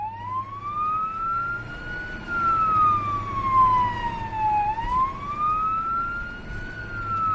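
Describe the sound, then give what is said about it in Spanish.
An emergency vehicle siren wails steadily, its pitch slowly rising and falling in long sweeps, loud, with a low engine rumble underneath and no voices. “tenemos la policía local y luego dos clínicas bastante cerca”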